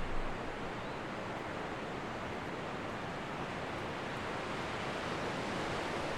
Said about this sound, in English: Close your eyes and listen to the symphony of nature around you. The rhythmic waves, the distant call of seagulls, the whispering wind in the trees.